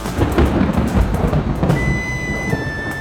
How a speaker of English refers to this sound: Does it never stop raining?